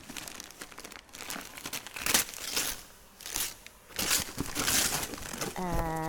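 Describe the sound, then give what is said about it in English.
Wrapping paper is torn off a wrapped item to open it, crinkling in a series of loud, scratchy bursts, with a brief voiced sound cutting in at the very end. “You open it, you tear the wrapping paper off to find out what's inside.”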